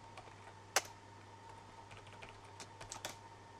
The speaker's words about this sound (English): So I'm going to go ahead and get my credentials cached in there by typing particle login.